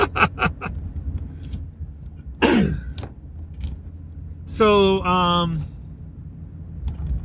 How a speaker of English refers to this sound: traffic is lighter than normal, I would say, but there's still quite a bit. So, as far as normalcy goes, it's starting to feel a little more normal that in that respect.